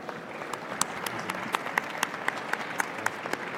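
Steady applause from an audience welcoming a panel at the ANTP logistics and distribution pavilion, a dense wash of many hands with a few sharper, louder claps popping out at a fairly regular beat.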